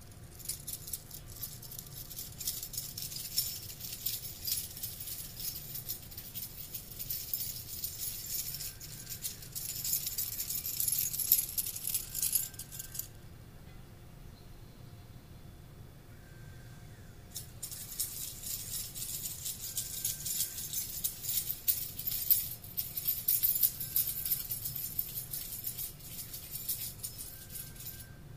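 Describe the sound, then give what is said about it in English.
Keys jingle and jangle continuously at head level, recorded with binaural in-ear microphones, a bright metallic shimmer that pauses briefly midway before resuming just as busily. No voices are heard. “Test number one. Keys jingling.”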